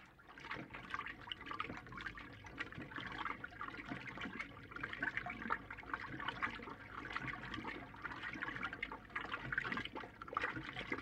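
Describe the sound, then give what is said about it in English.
An early electric washing machine with a mangle on top, from between the hand posser and the all-automatic machine, churns steadily with water, a continuous sloshing, gurgling wash with no pauses and fairly even loudness throughout, and no voices. “This machine comes in the gap between the hand posser and the all-automatic machine.”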